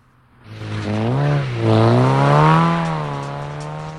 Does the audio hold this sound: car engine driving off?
yes